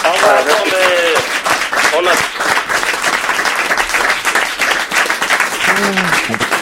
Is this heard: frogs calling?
no